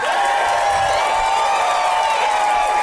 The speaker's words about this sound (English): And please, please give it up. The biggest round of applause you can muster for Arnie Niekamp.